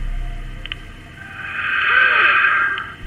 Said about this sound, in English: In the center, a cassette player emitted the sound of static for an uncomfortable stretch of time.